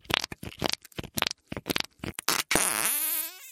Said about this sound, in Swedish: Den kommer från slimeklutten som hon alltid har där. Den får henne att stressa ner. Speciellt när hon klämmer på den och den ger ifrån sig ett mysigt pruttljud.